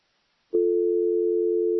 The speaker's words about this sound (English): Are you there? I just got a dial tone. That was weird. That's okay. That's what I always hear when I call Mom.